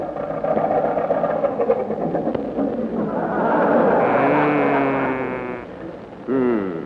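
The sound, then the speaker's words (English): An early airplane engine runs with a steady, rough mechanical drone that continues for several seconds, its tone rising and shifting partway through before dipping and surging again near the end. “Orville, contact. Contact. It's a running.”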